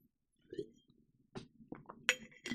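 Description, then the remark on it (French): Glass clinks a few times as someone takes a sip: soft low handling noises, then several sharp taps and one bright, ringing clink, fairly quiet with no talking. “Enfin, je peux comprendre, je prends une gorgée de play.”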